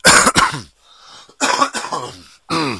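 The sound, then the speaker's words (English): A string of loud coughs into the microphone, coming in harsh bursts separated by short pauses, with some throaty, rasping throat-clearing mixed in. “People told me they like it when I cough into the mic”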